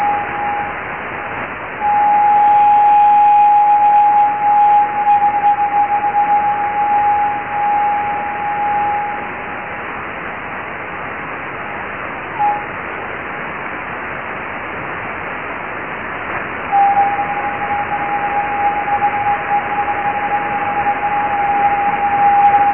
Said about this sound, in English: in this recording that we made with the aerial that's set up at Jodrell, you'll hear high-pitched noises in this recording that are basically the echo of this transmission coming back off the meteor trails. So these are actually the Leonid meteors.